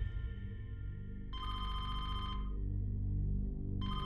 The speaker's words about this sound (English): Kathy's phone rang out of the blue on a Friday morning.